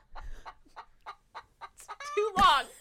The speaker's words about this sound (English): The chicken said it for me.